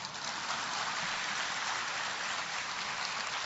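A crowd applauds steadily, a dense wash of many hands clapping at an even loudness for several seconds, with no voices heard over it.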